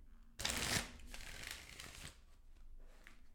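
A deck of tarot cards being shuffled, starting with a sharp riffling burst that settles into a steady papery flutter and then fades to quiet handling sounds.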